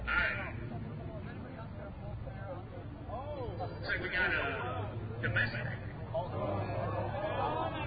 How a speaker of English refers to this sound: What's this? Dodge. Why are people booing a Dodge? Because it's not European. Wow, you know, looking around this crowd, you would not think that they would be cheering European and putting a thumbs down for American.